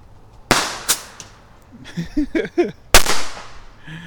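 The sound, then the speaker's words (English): Two fireworks lit at the same time go off in sharp cracking bursts, each trailing a hissing whoosh that fades out; one falls into the pipe and shoots across the deck. A few excited voices call out between the first pops and a final loud blast. “So we light one fuse, we light the second fuse, and we step back. Whoosh.”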